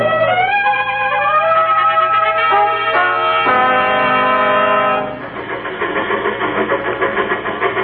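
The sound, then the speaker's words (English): A train running on rails, with a loud sustained horn blast over the opening seconds, then a steady rhythmic rumble and clatter of wheels. No one speaks. “I'm going to take the next train to Cheyenne.”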